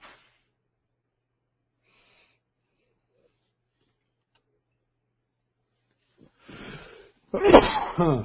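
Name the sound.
sneeze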